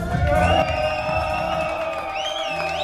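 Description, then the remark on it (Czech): A lively crowd of former and current patients cheers and whoops continuously at the swimming pool of the Kladruby rehabilitation institute, supporting each other toward a shared goal, many voices blending into a loud, steady din with a few high shouts rising above it near the end. “Tleskáme pro zboze!”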